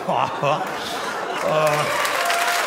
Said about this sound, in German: Oh. Dankeschön, vielen Dank. Ist auch euer Applaus. Dankeschön, danke, vielen Dank.